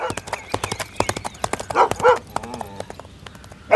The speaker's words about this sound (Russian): но их было слишком много, и человек уже терял последние силы, когда внезапно раздался конский топот.